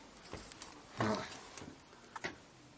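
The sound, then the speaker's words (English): Several soft, irregular knocks on a door, fairly quiet, with a short muffled tonal sound in the middle between the taps. “Let's knock on the door.”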